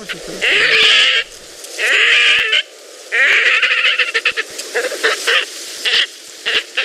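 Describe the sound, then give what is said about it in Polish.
A pond bird gives loud, pig-like squeals, first three long drawn-out screams, then a faster run of shorter, choppy squeaks, with no voices. “Także drodzy Państwo, najlepiej wieczorem dookoła stawiku i jest szansa, że świnia się odezwie.”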